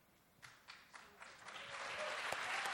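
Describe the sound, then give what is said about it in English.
Audience clapping begins as a few scattered, separate claps and quickly swells into steady, dense applause that grows louder and fills out over a few seconds. “You're clapping. That's the right response.”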